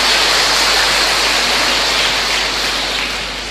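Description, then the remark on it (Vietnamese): An audience applauding to greet a fellow member: a dense, steady wash of many hands clapping at once, loud and continuous for a few seconds before easing off slightly at the end, with no voices. “Chúng ta cho một tràng pháo tay chào người anh em này.”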